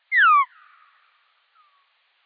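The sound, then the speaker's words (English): A bat echolocation call slowed down 20 times: a loud, downward-sweeping chirp with a harmonic above it, trailing off into fainter fluttering echoes, then a second brief sweep starting at the end. “Many bats hunt at night and use echolocation or sonar to zero in on their prey.”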